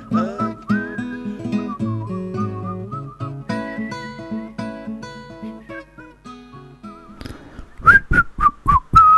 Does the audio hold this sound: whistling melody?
yes